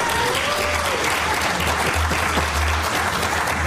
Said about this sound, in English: Earned applause. That's good. All right. Yeah, and that earned applause was obviously not for him.